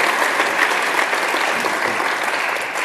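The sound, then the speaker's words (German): An audience applauds a speaker being welcomed for all he has already done, a dense, even wash of many hands clapping at a fairly loud, constant level with no voices heard over it. “Ein Applaus für ihn erstmal für alles, was er schon getan hat.”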